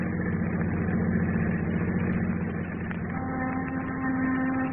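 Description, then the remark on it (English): A car engine idles steadily in fog, a low continuous rumble with a faint hum on top that shifts pitch slightly about two-thirds through; no one speaks. “Margo, I'm going to stop here. Now, you stay in the car.”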